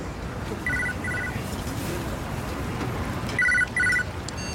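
A mobile phone rings with bright electronic tones, two short pairs of trilling bursts separated by a pause, heard clearly over a low, steady background rumble.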